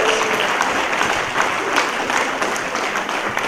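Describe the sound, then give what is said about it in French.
An audience applauds during a sermon, clapping steadily throughout, a dense, sustained wash of many hands with no pauses or voices standing out. “Est-ce que quelqu'un peut donner une main d'acclamation?”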